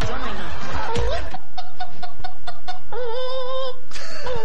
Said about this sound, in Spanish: Una gallina, bro. Oye, pero la gallina, ¿qué onda, loco?